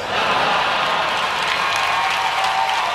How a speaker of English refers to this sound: That was George Carlin obviously getting an enthusiastic response from a live crowd